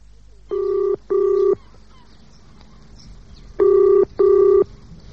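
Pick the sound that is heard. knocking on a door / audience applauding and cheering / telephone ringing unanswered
telephone ringing unanswered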